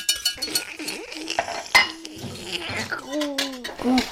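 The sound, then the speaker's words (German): A pan and metal utensils, including a whisk, being handled while cooking, with repeated clinks, scrapes and clatters in an irregular rhythm, plus a few brief tonal squeaks mixed in. “Kochen, ja. Eine Pfanne.”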